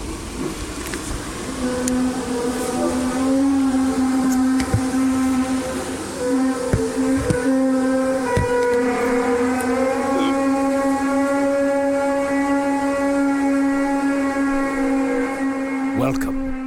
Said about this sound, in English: All right. This is the British hum.